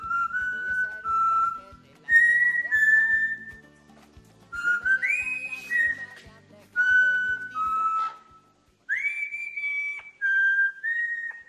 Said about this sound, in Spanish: Bueno, digo cantarte, silbarte. Sí, sí, no, también es un arte lo del silbido, ¿eh? Está bien, por parte del loro.